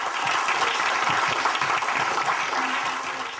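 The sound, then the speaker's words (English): A roomful of people clapping steadily after a presentation of the Plume product, a dense, continuous patter of many hands that stays loud throughout and eases slightly at the end, with no voices. “When the presentation was over, the room lit up with applause.”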